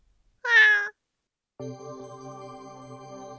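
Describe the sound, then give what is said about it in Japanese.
A single short cat meow with a rising-then-falling pitch, from a cat in a stone prison cell, followed after a brief silence by a steady, sustained humming tone that continues to the end. “猫はもう姫の手を抜け出して歩き出しながら、こっちへいらっしゃいというように振り返りました。”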